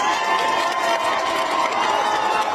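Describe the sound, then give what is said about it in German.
A large crowd of protesters in Isfahan, Iran, cheers and shouts continuously as the entrance of the state television building is set on fire, a dense roar of many voices that stays loud and steady throughout with no pauses. “unter dem Jubel der Menschen der Eingang des Gebäudes des staatlichen Fernsehens in Brand gesetzt.”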